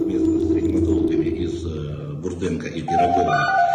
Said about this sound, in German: Schon wieder klingelt das Telefon des Chefarztes mitten in seinem Statement. Neue Informationen?